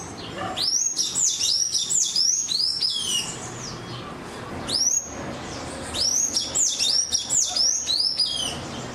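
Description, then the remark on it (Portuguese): A sayaca tanager sings in quick bursts of high, squeaky, slurred chirps, two phrases separated by a short pause, over a low background hum with no talking. “E descobrem que é o sanhaçu cinzento.”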